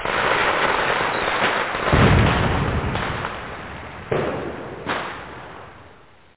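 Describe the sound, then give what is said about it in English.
Fireworks bursting in a loud, dense crackle with several sharper booms standing out, around two, four and five seconds, before the noise tapers off. “Fireworks would have made that movie more interesting.”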